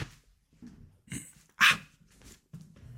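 dog barking

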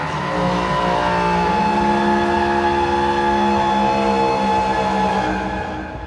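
horn being blown

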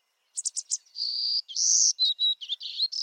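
golden-cheeked warbler song

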